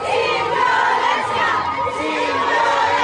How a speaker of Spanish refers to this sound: Estas pedían marchar en paz, aunque en algunos casos gritaban: fuimos todas.